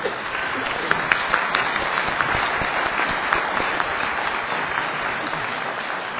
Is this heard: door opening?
no